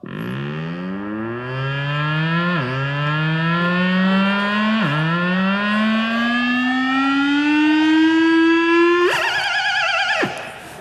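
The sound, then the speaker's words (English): An electronic instrument imitates a car alarm: a loud, buzzy tone sweeps upward three times in rising whoops, then breaks into a quick warbling trill before cutting off. No one speaks. “Here's an impression of a car.”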